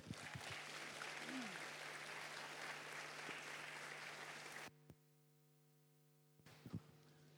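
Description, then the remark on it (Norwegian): An audience at a seminar claps for a woman about to speak, steadily in a dense, sustained burst for about four and a half seconds, then it cuts off abruptly to near silence, followed by a few faint knocks. “La oss gi henne en god applaus.”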